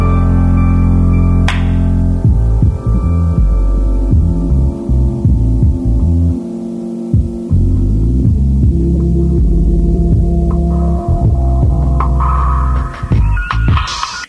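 A hip hop remix plays loudly and steadily, heavy throbbing bass and sustained low tones dominating, with a brief high accent early on and brighter layered sounds near the end.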